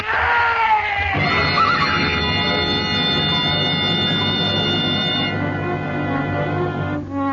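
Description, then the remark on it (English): A horse stumbling and falling on a narrow trail above a sheer 1,000-foot drop lets out a loud, shrill whinny that wavers at first, then holds as a long, strained cry over several seconds against a rough, noisy rumble. “The horse stumbled.”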